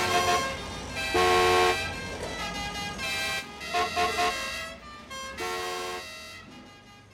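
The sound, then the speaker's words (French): Car horns honk repeatedly in a traffic jam, several overlapping blasts of different pitches and lengths, some long and some short, over a low, steady rumble of idling engines. “trop de camions, bouchon, bouchon, tu nous rends un peu grognons.”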